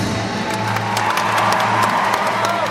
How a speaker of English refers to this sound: The crowd demanded another curtain call.